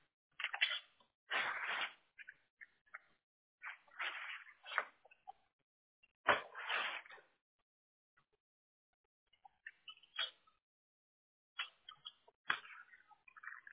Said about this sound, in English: Can you do my holding for like 30 seconds here? I'll be with you, but I won't be talking. You'll hear me typing away here, okay?